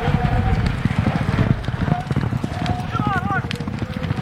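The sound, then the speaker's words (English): Horses gallop hard on a half-mile race track during an Indian Relay race in the American West, a dense, rapid drumming of hooves over a low rumble, loud, with voices and a few high whistling calls mixed faintly underneath. “These horses are able to run like you wouldn't believe.”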